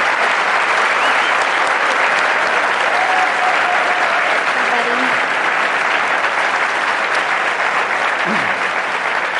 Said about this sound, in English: Pray, but why don't we give you guys a round of applause for having the courage to come out.